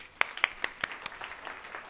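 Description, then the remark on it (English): Sparse, scattered clapping from a small group applauding a man who shared something courageous he had done, with sharp individual claps at an uneven rhythm that thin out into softer, quieter claps by the end. No voices are heard. “Okay, give him a clap.”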